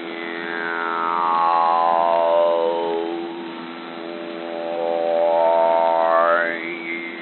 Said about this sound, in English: Oh, it's pretty noisy since they built that new sawmill. All you hear all day is this.